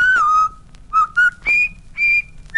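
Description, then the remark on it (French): Someone whistles a short marching melody, the River Kwai march, clear, with a few sustained bright notes in separate phrases and brief pauses between them. “Siffle la rivière Kouai.”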